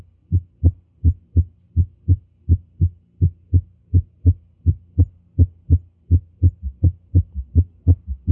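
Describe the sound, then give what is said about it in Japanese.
A heart beating in a summation gallop rhythm, with the third and fourth heart sounds overlapping, heard through a stethoscope placed at the cardiac apex as dull, low thuds grouped into quick repeating cycles, steady and even throughout, with no voices. “これはサメーション、ギャロップ、リズムです。3音声と4音声のギャロップ音が重なったものですね。”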